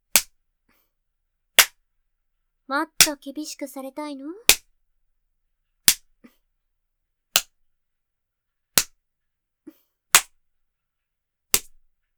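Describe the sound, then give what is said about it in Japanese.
Sharp, crisp hand slaps of a spanking on the buttocks strike one at a time, about nine in a steady rhythm roughly every second and a half, with a brief stretch of spoken voice between the early ones. “悪い子はお尻ペンペンでしょ。”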